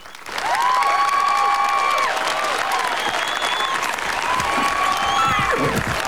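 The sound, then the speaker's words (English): Spectators, including tourists, at a battlefield reenactment applaud steadily, dense clapping that rises quickly and holds at a loud, even level throughout, with a few whistles and cheers cutting through above it. “smiles as she applauds with the other spectators.”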